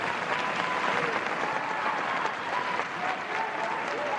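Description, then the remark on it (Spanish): Warm, sustained applause from a large standing crowd of guests and public welcoming the royal family at the Royal Palace before the changing of the guard ceremony in Spain, a dense, even wash of clapping that holds steady for the whole four seconds without breaks or swells. “Con este cariñoso aplauso, invitados y público han recibido en pie a la familia real antes de comenzar el solemne cambio de guardia.”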